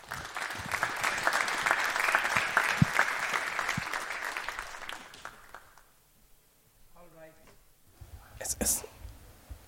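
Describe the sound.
Audience applause fills the first six seconds with dense, steady clapping, then fades out, leaving a quieter stretch with faint rustling and a brief voice near the end.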